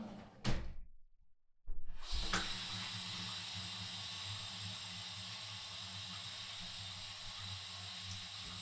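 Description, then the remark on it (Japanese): Bath water gushes steadily from a tap after a brief knock and a moment of silence, a continuous hissing rush of hot water filling the tub. Bubble bath liquid has been added to the running water, and the water pressure whips it into foaming bubbles. “で、なんかはいはいはいはい、なんかね、水圧で泡が作られるんだって。”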